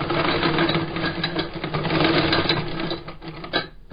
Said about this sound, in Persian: با این ماشین چرم کفش ها را می دوزد.